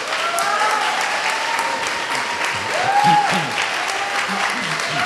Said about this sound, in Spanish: Muchas felicidades, un aplauso para ellas.